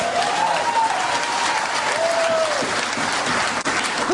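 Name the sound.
audience applause and clapping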